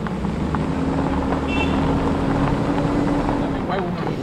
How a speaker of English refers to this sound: so bumpy. And we're being thrown back and forth across it and across the car.